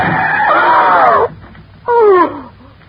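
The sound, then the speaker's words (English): A car brakes hard on a rutted dirt track in the desert sand, with a loud, high-pitched tire screech lasting about a second, then a brief pause and a second shorter squeal. No one speaks. “Then just as we cut in between some yucca plants and a wind-blown Joshua tree, I slammed on the brakes.”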